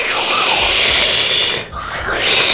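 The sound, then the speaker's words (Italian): A voice imitates a rippling sea wave with a loud, breathy rushing hiss that holds steady, dips briefly near the end, then swells back up again. “Attenzione al rumore dell'onda che si increspa.”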